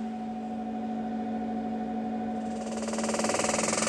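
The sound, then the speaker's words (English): An electromagnetic pelvic floor treatment chair, the M. Seller chair at a clinic, recorded on a phone: a steady electrical hum, then a loud, rapidly pulsing rattling buzz kicks in for the final second and a half, with no voices. “Okay, so I thought I would just do a quick recording on my phone, on the chair, on the M. Seller chair.”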